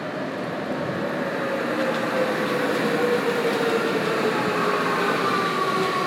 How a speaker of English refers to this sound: That's the transit going over the top. It's like a sort of guided busway type of affair.